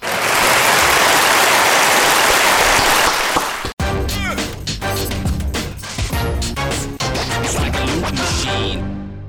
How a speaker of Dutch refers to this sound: Hallo jongens, even een applaus voor ons alle drie.